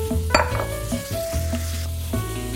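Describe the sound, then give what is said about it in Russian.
Food sizzles steadily in a hot frying pan as mushrooms go in, with a few clinks and scrapes of a utensil against the pan. No one speaks. “Поехали грибочки.”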